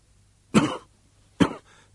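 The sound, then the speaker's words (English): Two sharp, harsh coughs from someone who has just lit a cigarette, fairly loud, about a second apart, each a short burst that trails off quickly into quiet. No talking. “Theor spoke carefully, skirting around urgent coughs.”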